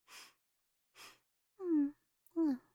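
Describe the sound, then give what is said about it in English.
Two short, airy sniffs at worn, dirty clothes waiting to be laundered, spaced about a second apart, followed by two soft voiced sighs or hums of pleasure, with no talking. “Just one little sniff won't hurt.”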